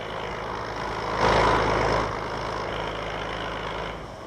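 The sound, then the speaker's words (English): Construction machinery at the building site of a 300-meter-wide dam on the Chao Phraya River runs in a steady, droning roar with a low engine hum underneath, swelling louder for about a second early on before settling back to a constant rumble. No one speaks. “Perhaps, Canuck, we'd better find some other place to broadcast without the noise of this machinery going on.”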